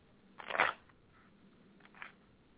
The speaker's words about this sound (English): I'm shuffling the cards again.